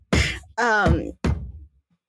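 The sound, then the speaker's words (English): A voice imitates knocking on a giant ornate door carved in gold with dark wood above it, bearing the name Professor Gatlet: three short, uneven vocal bursts, fairly loud, spaced about half a second apart, then quiet. “she stops at this like giant ornate door that's like carved in like gold and has like that dark wood texture up above it, and it says like Professor Gatlet in the like name file, and she like knocks on the door.”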